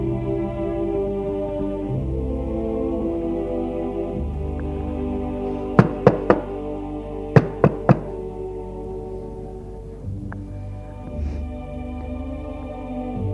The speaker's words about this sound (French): Il n'a pas osé sonner, il a simplement frappé.